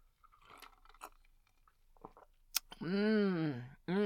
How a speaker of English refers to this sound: Thank you for the punch. I appreciate it. Oh, made the glass yourself. Yeah. Okay, well, I'll try a little bit.